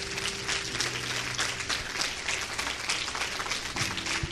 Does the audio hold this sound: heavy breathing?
no